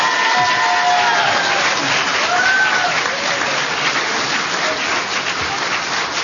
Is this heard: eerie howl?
no